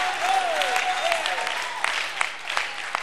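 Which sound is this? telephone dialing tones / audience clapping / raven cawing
audience clapping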